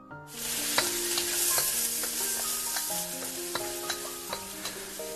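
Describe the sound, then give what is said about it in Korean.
Green onion and garlic stir-fry in a little hot oil, a steady loud sizzle broken by sharp crackles and pops as the food is tossed, with a soft melodic tune running underneath. “파, 마늘을 넣고 기름을 조금 둘러볼까.”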